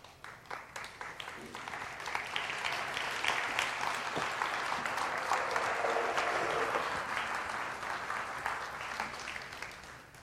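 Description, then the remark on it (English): A large audience claps steadily for six people called to take the message of Jesus to Guatemala, the applause swelling after the first couple of seconds into a dense, sustained wash that carries on throughout with no talking. “Yeah, and that, I feel like that applause is not so much for these folks, because it wasn't their idea, but it's for the way that God works in people's lives.”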